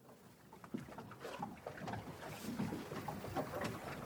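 A boat moves steadily across water, with a constant broad wash of splashing and rushing sound, occasional sharper slaps against the hull, and some wind in the background. No one speaks.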